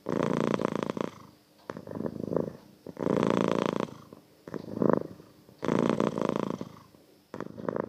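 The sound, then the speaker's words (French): A cat purrs in a steady rhythm, each long rumbling inhale-exhale cycle repeating about every two to three seconds, loud and unbroken by any voices. “Ce qui a marqué positivement l'année 2020, c'est que j'ai passé plus de temps auprès de mon chat. Et d'ailleurs, c'est à lui plutôt de donner son avis.”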